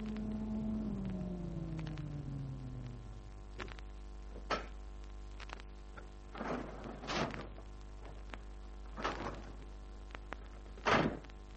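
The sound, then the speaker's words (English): A low mechanical hum glides downward as an elevator in the Biltmore Arms building comes to a stop at the top floor, followed by a series of clunks and rumbling door slides, with no one speaking. “20 minutes later, I entered the Biltmore Arms building, took the elevator to the top floor.”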